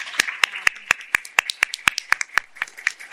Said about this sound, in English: And I just want to start maybe just a moment of applause for our federal workers.